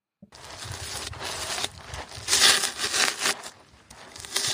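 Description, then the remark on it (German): Styrofoam being crunched and squeaked continuously for several seconds, a dense, scratchy crackling with louder squeaky bursts midway and toward the end, no voices. “Dann nehme ich das Knirschen von Styropor.”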